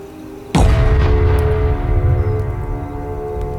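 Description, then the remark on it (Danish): A single loud cannon boom bursts out suddenly at night over a calm sea off the Swedish coast, firing a cannonball toward a coastal fortress on land; then a deep, heavy rumble lingers and slowly fades over the next few seconds. No one speaks. “Imens braget klinger ud over det stille hav, flyver en kanonkugle gennem luften mod land.”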